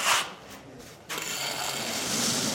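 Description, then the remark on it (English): Retiling construction work at Chilango's, a popular Mexican restaurant in Highlands: a short harsh clatter, a brief lull, then a loud, steady, hissing grind-and-scrape that carries on without pause. No one speaks. “Up and down the vacant blocks, you hear the sounds of construction, like this retiling underway at Chilango's, a popular Mexican restaurant.”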